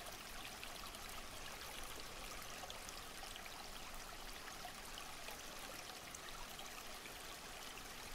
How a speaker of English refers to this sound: The water in the stream glistens with a glow from the sun, like diamonds being pulled around in the light. Its sound is ever more relaxing and only adds to the already euphoric feeling you have.